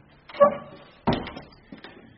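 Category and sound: household object, heavy door being opened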